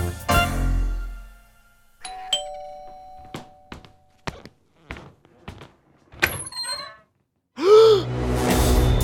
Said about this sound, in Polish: Po kilku dniach rozległ się dzwonek w domu Strielcowa.